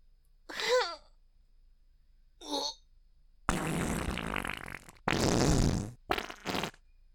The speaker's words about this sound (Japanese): おならで顔ベタベタになるまで嗅がせちゃった。